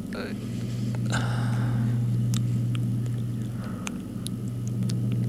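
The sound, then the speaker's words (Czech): A long cable car runs with a steady, droning low hum that holds throughout, with scattered faint clicks and rattles on top. “To je dlouhá lanovka.”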